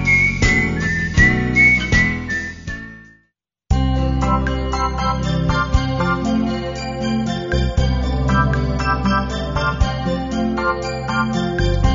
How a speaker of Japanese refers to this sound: うららかな日差しをイメージさせるアコースティックギターと生演奏の口笛。